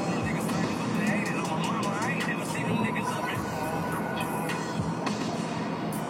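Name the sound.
airplane cabin noise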